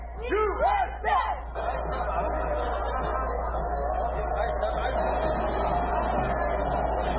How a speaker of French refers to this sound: Vous avez entendu les cris USA.